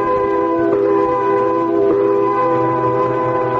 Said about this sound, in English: Came quitting time, there was a whistle. Loud enough to buckle your knees and send waves up your spine.